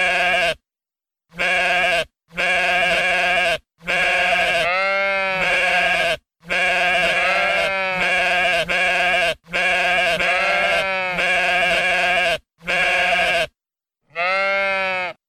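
A flock of sheep bleats loudly, with about ten wavering, nasal baas that come in quick succession and sometimes overlap, each separated by brief silences.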